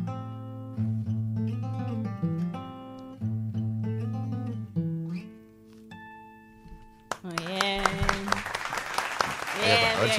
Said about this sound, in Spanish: Hay aplausos. Sí.